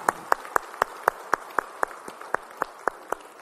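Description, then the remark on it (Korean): A church audience applauds in praise to the Lord after the hymns, clapping together in a steady, even beat of about four sharp claps per second over a soft wash of crowd noise, with no one speaking. “아, 우리 모든 찬양을 마치 주님께 영광의 박수 올리겠습니다.”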